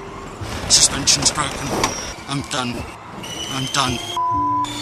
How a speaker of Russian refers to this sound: Я вам показываю формулу И. Слышите, какой рев двигателей какой? Вот это он на полном ходу несется.